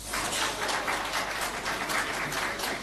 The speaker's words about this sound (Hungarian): Ritka pillanat. A sajtóteremben taps fogadta a csúcs után közös tájékoztatót tartó német kancellárt és francia elnököt.